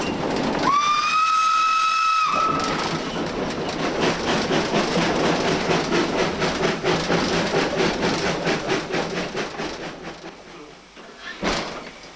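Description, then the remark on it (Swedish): A coal-fired steam locomotive in Sweden labours uphill from the Verkån river on the climb up to Brösarp, its chuffs coming in a steady, rapid rhythm over loud mechanical rumble, after an opening blast of a high steam whistle lasting about two seconds. “Nu kommer du att höra att du tuffar på här snart.”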